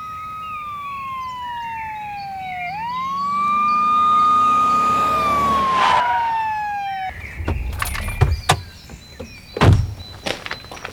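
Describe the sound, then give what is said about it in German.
A police patrol car siren wails loudly as the patrol car pulls up, its tone rising and holding, then cuts off abruptly, followed by a few sharp clunks like car doors. “Da kommt ein Streifenwagen.”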